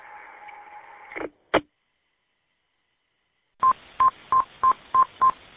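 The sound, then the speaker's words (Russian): Touch-tone dialing: a held dual tone cuts off with a click, then after a pause six short, evenly spaced keypad beeps ring out in a quick steady rhythm, with no one talking. “Кто-то уже сигналит тональником.”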